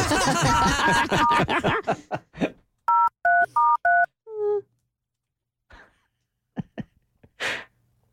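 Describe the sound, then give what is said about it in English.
Four loud, evenly spaced dual-tone beeps of a phone number being dialed to call a place called the Kicking Donkey, followed by a short descending tone and a few scattered breaths and faint noises; laughter and voices precede it. “How about we call the kicking donkey?”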